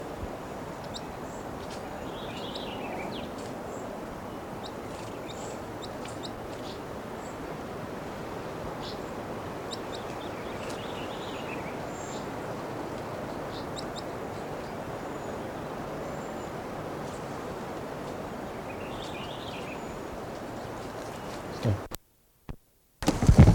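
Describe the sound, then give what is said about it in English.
Three faint, high-pitched song phrases from a wild bird, each a short descending flourish, spaced several seconds apart over a steady rushing wind-like hiss, which cuts out abruptly near the end. “Recording one of the wild birds just gave a song phrase.”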